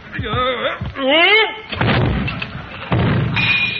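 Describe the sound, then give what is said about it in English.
Strained, rising vocal exclamations as a heavy bust is lifted back onto its pedestal give way to the bust crashing down off the pedestal with a deep, loud thud, followed by a second dull impact and rumbling clatter. “Set Caesar up in the next alley. Mr. Conklin's got another shot coming.”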